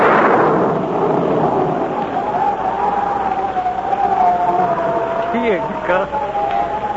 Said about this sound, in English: Possibly be thunder. It sure sounds like a storm coming up